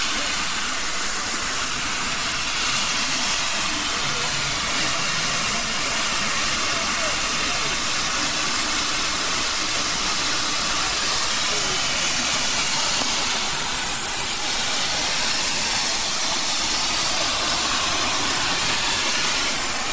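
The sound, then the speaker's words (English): The steam locomotive of a Swanage train, full to capacity, hisses loudly and steadily as it arrives at the Harman's Cross station platform, a continuous rushing release of steam, with faint indistinct voices underneath. “And yet another Swanage train is absolutely full to capacity as it arrives at Harman's Cross.”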